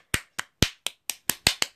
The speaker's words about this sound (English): I think I did pretty well there. I'm gonna give myself a round of applause in my own room.